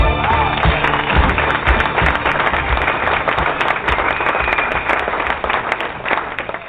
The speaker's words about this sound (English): Oh yeah, clap it out.